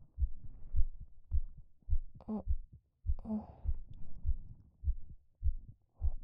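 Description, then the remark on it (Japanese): A muffled human heartbeat, a woman's heard with a head resting on her belly, thumps in a steady rhythm, low and soft, with faint body gurgles and rustling in the background. “私の心臓の音。”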